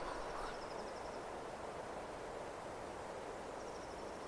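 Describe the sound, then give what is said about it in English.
Faint bird chirps come in short bursts near the start and end, over a steady, airy rushing wash of wind through pine trees in a forest in Småland, Sweden, near a summer house. “It's in Småland in Sweden, near my grandparents' summer house. You can hear the birds and it's like a blue sky, but you have this sound.”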